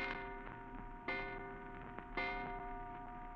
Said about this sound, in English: And you're still wondering about it as you hear the clock striking in the front hall.